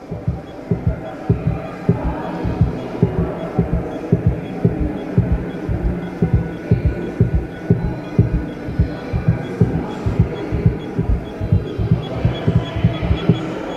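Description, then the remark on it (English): A steady heartbeat, played inside a small doll's-house-scale model of a cabin, thumps on and on in a regular double-beat rhythm, low and muffled, over a faint background hum and murmur. “a little model of Le Corbusier's Cabanon, which is the cabin where he died. With a heartbeat inside.”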